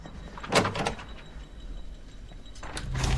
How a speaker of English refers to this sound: Jack tries the doors on either side. One finally opens.